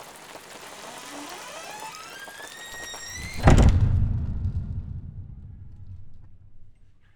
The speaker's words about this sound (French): Je me dépêchai alors de rentrer, mais je fus bien vite rattrapé par les grosses gouttes de pluie qui s'abattirent sur moi avec force.